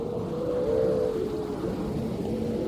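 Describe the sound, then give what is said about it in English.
Grey seals howl on a beach in a bay off the island of Mingalay in late September, pupping season, with harems of seals on the beach: long wavering moans overlapping in a steady, mournful chorus that carries on without pause at a fairly strong level. “Suddenly we heard the howling of seals.”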